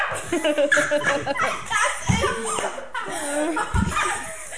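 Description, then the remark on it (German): A sixth-grade schoolchild imitates a small dachshund's high-pitched yapping barks, a few sharp yips amid laughter and chatter from other children. “Das war ein kleiner Dackel.”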